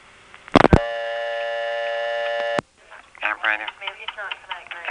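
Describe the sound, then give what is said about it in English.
After dialing 1 on a payphone, a sharp click on the line while waiting for the operator to answer, then a steady electrical hum for about two seconds with no audible ringtone, cut off by a second click before the operator's voice starts speaking over the line. “There's that same tick, but while waiting for the operator to answer, there's no audible ringtone.”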